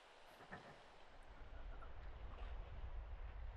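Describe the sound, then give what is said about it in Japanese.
A low, muffled wash of ocean surf rumbles steadily, swelling slightly and staying soft, heard through lightly covered ears, with no voices. “波の音も私の声もぼんやりと聞こえて。”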